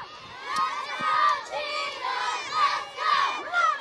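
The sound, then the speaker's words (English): A crowd of children shouting and calling out at a school field day on the playground, many excited voices overlapping in a steady, lively din, as a teacher yells instructions through a bullhorn and students try to pass eggs to each other on paper plates. “A teacher yells instructions through a bullhorn as students try to pass eggs to each other on paper plates.”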